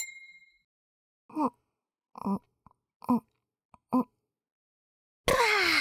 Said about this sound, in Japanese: それじゃ、今日もお疲れっと。乾杯。